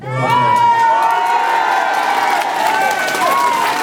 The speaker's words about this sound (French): Les salariés applaudissent unanimement.